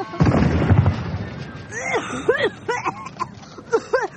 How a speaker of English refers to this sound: Boy, it's a very realistic-looking tank made out of dandelions and buttercups. Aw, and the cannon even swivels. Pointing this way. It probably fires off rose petals.